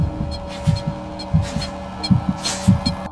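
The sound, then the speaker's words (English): A heartbeat thumps quickly and steadily in paired, low, muffled beats, about five double-thuds over a few seconds, moderately loud with a faint hum underneath. “You mean like his heart beat the fastest heartbeat, and all that? Heartbeat, everything, through the roof.”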